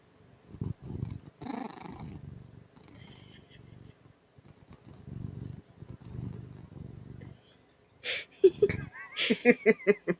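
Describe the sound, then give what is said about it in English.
A domestic cat purrs while being petted, a steady, rhythmic rumble for several seconds, followed near the end by a cluster of brighter, sharper vocal bursts. “I hope you all enjoyed a little bit of that ASMR of our cat Bing. Danielle is loving on him very much right now”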